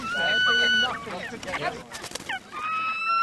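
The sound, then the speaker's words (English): Red knot shorebirds, caught under a net in a marsh by biologists and volunteers monitoring their health, moan in long, steady, plaintive calls at the start and end, with a busier stretch of overlapping chatter and rustling in between. “They're moaning. They sound so pitiful.”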